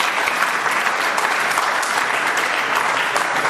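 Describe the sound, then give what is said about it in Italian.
Steady, dense audience applause for a twirling athlete who is the current European champion, with many hands clapping at once, a loud, even crackle that holds at the same level throughout without a break. “Un altro applauso, cosa dite?”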